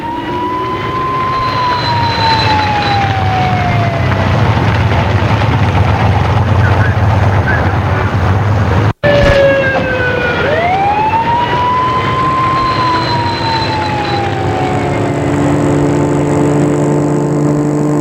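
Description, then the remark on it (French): A police siren wails in slow rising and falling sweeps over the heavy, steady engine rumble of a police car driving to the police station, loud, with a brief cut in the middle. “Il la fait rentrer dans la voiture de police et direction le poste de police dans un bled pourri.”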